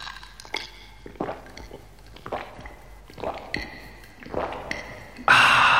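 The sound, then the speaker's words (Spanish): Someone sips an iced Bacardí rum and Coca-Cola with lots of ice, with wet mouth sounds and small clinks of ice against the glass, ending in a sudden louder fizzy rush. “Es mi preferida, refrescante, en su punto. Es mi copa de Ron Bacardí con Coca-Cola.”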